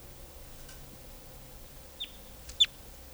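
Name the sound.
wild birds calling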